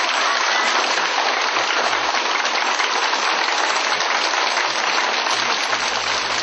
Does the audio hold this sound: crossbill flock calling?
no